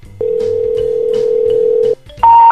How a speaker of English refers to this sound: So I've done a little bit of research and I actually got Hunter S. Thompson's current home phone number and we're going to give him a call now. Here it goes. See if he's home.